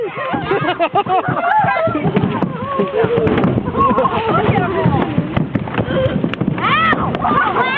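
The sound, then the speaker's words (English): Asian carp jump from all sides and thump and bang against a family's boat as it comes through a waterway, in rapid, irregular knocks. Several people shout, shriek and laugh excitedly over them, loud and busy throughout. “When a boat comes through, well, here's the sound of a family being bombarded by Asian carp from all sides.”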